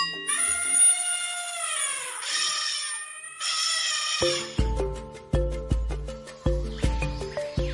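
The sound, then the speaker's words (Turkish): Loud, brassy elephant trumpeting blasts for about four seconds, the pitch sliding and wavering, followed by a steady rhythmic percussive beat with deep thumps and bright clicks. “Bu hayvanın adı fil.”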